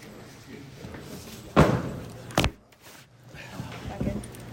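A microphone being put in place: two sharp, loud bumps about a second apart, then softer rustling and handling noise over a low background murmur.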